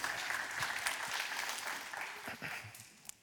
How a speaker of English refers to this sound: I mean, clapping for idiocy is what we do around here.